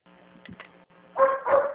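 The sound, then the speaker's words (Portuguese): Two loud, sharp dog barks from dogs at a workplace burst out in quick succession near the end, after a stretch of quieter background noise with a faint low hum. “Eu estou trabalhando aqui como mesmo cachorrado, não estou ouvindo nada direito.”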